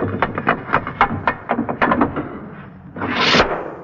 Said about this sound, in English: This jovial sound effect was accomplished by the sound man on the Bishop and Gargoyle show, running a piece of metal up and down the side of a door to produce the sound of a guillotine knife falling.